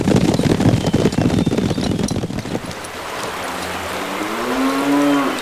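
A herd of cattle lows over a dense, rumbling wash of noise, which then thins as one long, rising moo swells and holds near the end.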